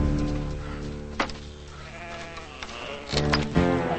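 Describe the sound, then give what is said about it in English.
Several sheep bleat in overlapping, wavering calls, fairly loud, in a corral at a ranch at night, with a couple of sharp, brief claps cutting in near the end as a rancher approaches them clapping. “Clapping, the drunk rancher approaches the sheep.”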